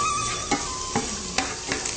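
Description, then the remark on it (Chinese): Shiitake mushrooms stir-frying in oil in a pan over low heat: a steady bright sizzle runs throughout, broken by four sharp scraping strokes of a spatula at irregular intervals, with no voices. “蛮有煸香菇哦，系咪煸煸个将煸一系列东西？”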